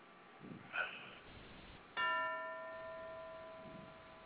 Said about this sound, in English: Sound like someone is trying to get in the ring. They're ringing the bell.